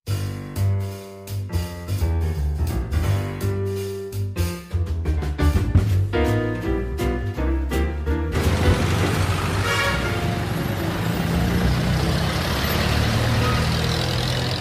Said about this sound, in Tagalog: Napakadaming lubak naman ng kalsada ngayon dito sa atin, ano? Alog na ako dito sa jeep, ah.